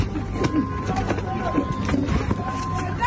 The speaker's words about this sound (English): I mean, what you're hearing there are punches being landed.